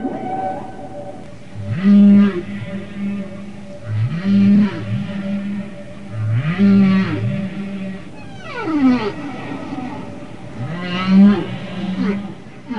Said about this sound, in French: Les baleines utilisent les sons pour se repérer, pour trouver leur nourriture, pour garder leur petit à l'œil, ou plutôt à l'oreille, et même pour se courtiser.